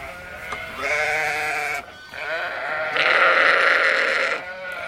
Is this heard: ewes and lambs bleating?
yes